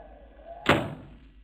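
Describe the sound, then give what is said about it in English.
A single solid knock against a wooden cabin door aboard the ship Comet, fairly loud, fading quickly over a faint low background hum. No one speaks. “the blind captain of a blind ship, sitting hopelessly in his cabin when a knock comes at his door.”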